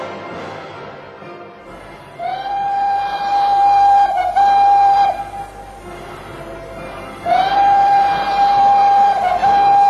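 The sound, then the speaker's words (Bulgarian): A train rumbles steadily along the rails, and two long, sustained whistle blasts sound over the rolling noise. There are no voices. “Да предадем влака!”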